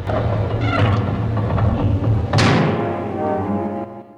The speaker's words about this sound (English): Two heavy doors slide shut.